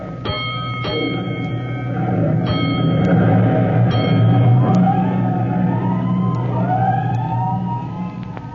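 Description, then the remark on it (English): A fire engine's heavy motor rumbles loudly, with a few ringing bell clangs at first, then a siren begins wailing upward in rising sweeps as the truck pulls away from the firehouse in answer to an alarm. “But before he can report to his officer, he hears an alarm, and he leaps aboard 209 as the great engine prepares to roll.”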